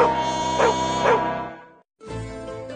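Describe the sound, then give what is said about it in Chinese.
A guide dog gives a drawn-out, whiny bark with a couple of sharper yelps inside it, falls silent briefly, then starts again. It sounds fairly loud, with no talking. “我是性格温顺的导盲犬，我是盲人的眼睛，请对我的工作多些包容。”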